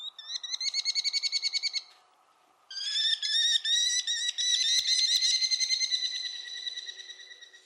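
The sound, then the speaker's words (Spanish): American kestrel, a small bright-orange falcon, calls: loud, shrill, rapid-fire 'klee-klee-klee' notes in two bursts, a short series, a brief pause, then a longer excited run, with no voices. “Un halcón de color naranja brillante, tan pequeño que se alimenta tanto de saltamontes como de ratones.”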